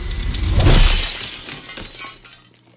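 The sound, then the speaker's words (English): A loud crash of mirror glass shattering, with bright tinkling shards scattering and trailing off over a couple of seconds. Nothing else is heard and no one speaks. “Glass shattered, along with the illusion. I stared at the broken mirror, then at my hand, bloody and clenched.”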